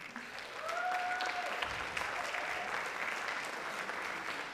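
A large audience at the Volksbühne theatre, at a net-politics conference, applauds steadily and densely throughout ahead of the grand finale, with a faint whistle rising briefly over the crowd near the start.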